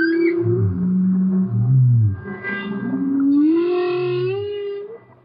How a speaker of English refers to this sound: Well, no, other pieces on the record are studio creations, but this is live underwater clarinet and humpback whale. This is what happened.